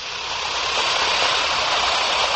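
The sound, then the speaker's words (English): An Alka-Seltzer tablet fizzes in water, a dense, steady crackling hiss of tiny bubbles that holds at an even, fairly loud level for a couple of seconds with no voices. “brought to you by the makers of Alka-Seltzer. Now, listen to it fizz.”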